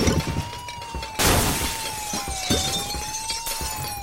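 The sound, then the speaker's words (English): Objects are destroyed in a video game in a streak to score points, shattering in a series of crunchy, glassy bursts, one especially loud crash among smaller cracks, while a steady electronic tone hums underneath and slowly wavers in pitch. No one speaks. “That's a streak, and the more objects you destroy in a short space of time, the more points you get.”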